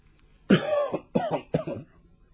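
A white-haired old man coughs three times in close succession from an inner hall, a long raspy hack followed by two shorter ones, with no talking around it.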